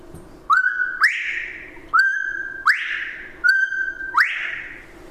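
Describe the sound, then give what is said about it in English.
A bobwhite quail call imitated on a mouth call: three clear whistles, each a short steady note followed by a louder, rising upslurred note, repeated at an even pace, alone. “So, Bob White flannel on a mouth call.”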